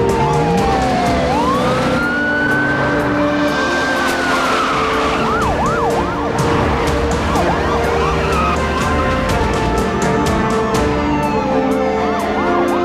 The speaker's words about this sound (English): Police cars and vans speed toward City Hall.